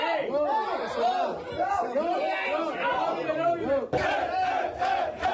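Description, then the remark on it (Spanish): A crowd of football fans shouts and cheers loudly all at once during the draw that gives them Valencia as their rival, many overlapping voices rising and falling in excited whoops, with a fresh surge of yelling near the end. “Gritan, pero no saben quién, porque luego se han enterado posteriormente.”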